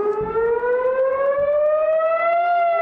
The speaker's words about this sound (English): Sirens wailed across southern Israel as hundreds of rockets and mortar rounds were launched from Gaza.